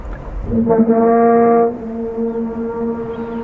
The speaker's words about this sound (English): But the whales keep making the sound. And finally, the bay gets quiet, and they're still doing it. I hit the record button.